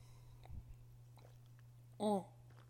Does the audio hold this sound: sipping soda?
yes